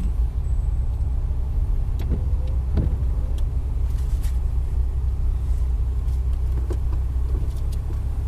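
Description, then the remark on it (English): Steady low rumble of a car interior or idling vehicle, constant and fairly loud, with a few brief clicks and knocks scattered throughout and no voices. “More car noises.”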